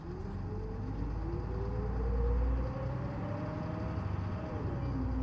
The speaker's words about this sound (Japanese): 11時19分発の千葉市北口呉浜佐渡沿い皐月山公園大光寺から池田駅です。 発車します。ご注意ください。